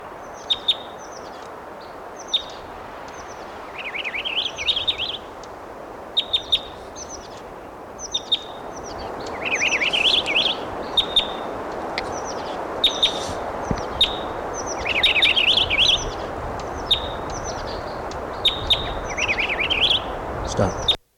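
purple finch song

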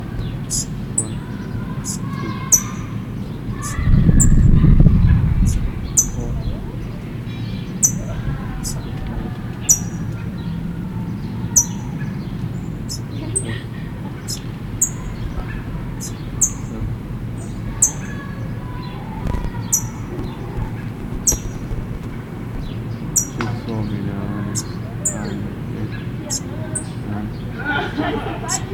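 parrot chick chirping

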